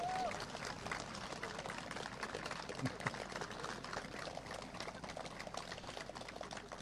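Steady applause from a large audience at a Norwegian gathering, for everyone who spoke on stage that day, a dense crackle of many hands clapping at an even level for several seconds, with no voices standing out.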